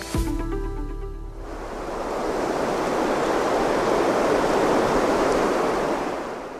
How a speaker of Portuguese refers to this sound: O som da chuva já não traz apenas alívio. Em muitos pontos dos países africanos de língua oficial portuguesa, ele anuncia destruição.